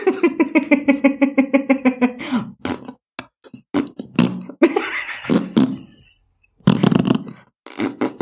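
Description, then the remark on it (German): Loud voices imitate herrings communicating by farting: a long buzzing, sputtering raspberry with rapid pulses, followed by several shorter spluttering bursts and a final blubbery blast, with brief gaps between. “Heringe kommunizieren mit ihrem Rektum durch Pupsen.”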